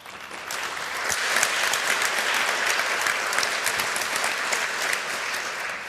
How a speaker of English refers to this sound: so please give her a warm applause for her talk.